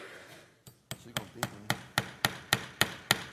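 A hammer taps a nail into wood about eleven times in quick, steady succession, each strike sharp and ringing, after a brief quiet moment; the nail is being started for a contestant in a nail-hammering competition.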